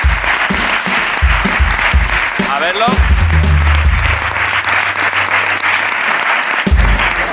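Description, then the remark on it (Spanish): Sustained applause from a crowd for the art team, a dense steady wash of clapping that fills the whole clip, with a few voices speaking briefly and a low musical hum underneath. “Un aplauso al equipo de arte.”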